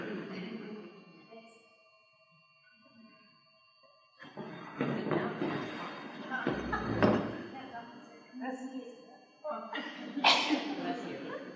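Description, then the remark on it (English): A person lets out a few loud, explosive sneezes spaced several seconds apart, with breathy sniffing and rustling in between. “I think I might have to sneeze 3 times to get it out.”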